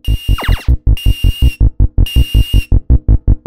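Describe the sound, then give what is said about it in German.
Space Invaders arcade sound from the space shooter game, an adaptive four-tone sound whose tempo speeds up as the enemies approach: a steady, fast march of low buzzy thumping tones repeating in a loop, overlaid by bursts of high whining electronic tones and a brief descending zap near the start. “Der Sound besteht jetzt immerhin aus 4 Tönen und war adaptiv.”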